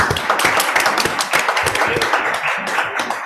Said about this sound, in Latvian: Kolēģi, labdien visiem! Pirms sākam finanšu komiteju, gribēju ar vētrainiem aplausiem apsveikt.